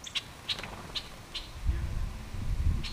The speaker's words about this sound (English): Red-winged blackbirds and starlings flit to and from a bird feeder at the Anita B. Gorman Discovery Center.